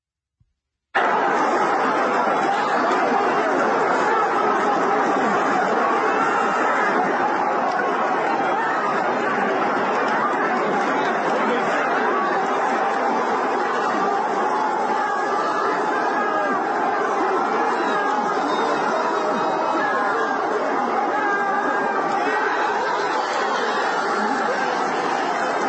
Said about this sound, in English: First, you're going to hear the roar of the crowd when the fighter wins the fight via tap out.